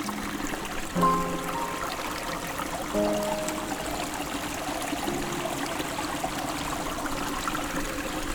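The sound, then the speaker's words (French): A mountain stream in a shaded green forest laps and trickles gently and steadily throughout, with a few bright bird chirps rising above the flowing water. “C'est dans ce dos clapotis”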